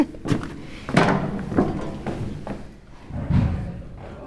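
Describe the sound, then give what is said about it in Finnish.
A series of irregular thumps and knocks as chairs, tables and musical instruments are set up on a theatre's main stage before band rehearsals for the musical Come From Away, with faint background murmur; several distinct impacts spread across a few seconds. “Täällä kasataan justiinsa lavalle tuolia ja pöytää ja soitinta, jos jonkinlaista.”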